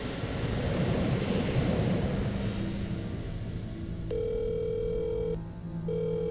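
An electronic telephone ring sounds twice, a steady buzzing tone with a short gap, following a few seconds of low rumbling background noise, before the call goes to a voicemail greeting. No one speaks during the ringing.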